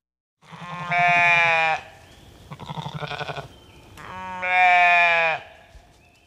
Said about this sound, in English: Is it a sheep or a cow? It's a sheep.